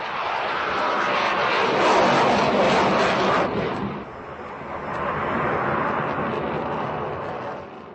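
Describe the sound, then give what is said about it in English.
A Swedish-made JAS-39 Gripen fighter jet, one of the Czech Republic's new fighters, roars loudly across the sky, a broad rumbling wash of engine noise that peaks, dips briefly, then surges again before fading slightly. No voices are heard. “A JAS-39 Gripen roars across the sky, announcing a changing of the guard.”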